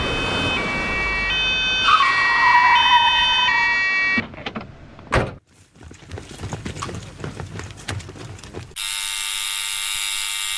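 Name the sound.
fire engine siren approaching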